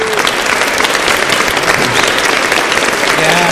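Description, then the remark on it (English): A crowd claps steadily for several seconds for the crew, a dense, even wash of many hands with no pauses, while faint voices and a few calls rise underneath the applause. “One give them a round of applause.”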